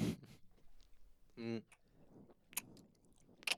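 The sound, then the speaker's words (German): Wet smacking and clicking of someone chewing sticky gummy candy with the mouth open, irregular lip smacks spaced out over a few seconds, with a brief voiced hum in the middle. “Bitte schmatzen Sie nicht. Mund zu.”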